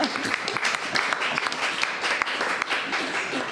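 A crowd applauds steadily, many hands clapping in a dense, crackling wash that holds at an even level throughout without pause.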